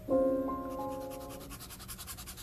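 White chalk scrapes across paper, opening with a brief squeaky, ringing tone before settling into a quick run of rhythmic, dry scratching strokes at moderate volume, with no talking.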